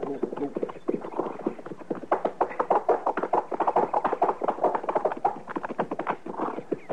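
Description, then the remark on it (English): Horse hooves clip-clop in a quick, steady rhythm, with a buggy rattling along behind and pulling up just past a bridge, the hoofbeats continuing throughout at a fairly even volume. “There's a buggy just past the bridge there. And that mate all hunkered over. He must have been hit. Pull up so we don't scare the horse”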